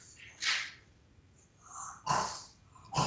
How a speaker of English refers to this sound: Jackson's barking for some reason.